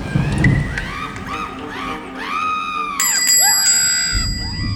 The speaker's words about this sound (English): No need to be quite so persistent with the bell, sir.